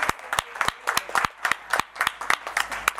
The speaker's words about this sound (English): I want to give the round of applause to all of us.